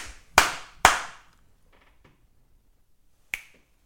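Two loud, sharp hand slaps in quick succession, then a much softer third slap, a pause of about a second, and a single crisp finger snap. No talking.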